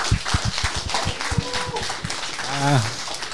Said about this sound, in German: Ja, danke, dein Applaus nochmal, ne? Also, das war doch cool.